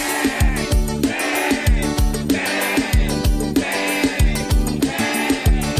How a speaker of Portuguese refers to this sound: Na minha casa tem um bode, e quando começa a berrar, eu já acordo bem cedinho com a garrafa. Ele me chamando pra beber, ele me chamando pra tomar, e todo dia de manhã o bode vem me chamar.